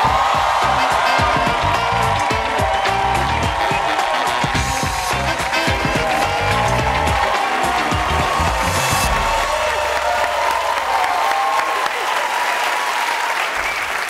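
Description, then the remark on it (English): A talk-show studio audience bursts into loud, sustained applause with cheering and whoops as guest Lindsey Vonn, three-time Olympic medalist skier, is welcomed, a dense steady roar of clapping that continues for the whole stretch without letting up. “Wow, that's like the best applause I've ever gotten.”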